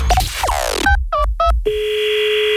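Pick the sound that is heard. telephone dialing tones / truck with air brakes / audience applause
telephone dialing tones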